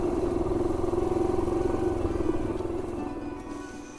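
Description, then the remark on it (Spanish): A motorcycle, ridden by a sanctuary worker along trails leading to a humid forest area declared a reserve, drones steadily, its low rumbling putter loud and continuous before easing off slightly near the end. No one speaks. “Primero, uno de los trabajadores del santuario, David Lacut, me llevó en moto por unos senderos que conducen a una zona de bosque húmedo que ellos han declarado una reserva.”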